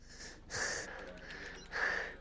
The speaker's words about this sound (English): As the device whirs to a halt, Jack slumps back against the bathtub, breathing heavily.